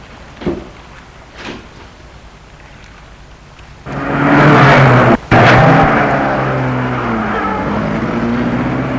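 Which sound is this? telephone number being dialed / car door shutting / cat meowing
car door shutting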